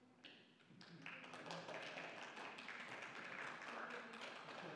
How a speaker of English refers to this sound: Now, if I hadn't have asked, do you think you'd be applauding for that?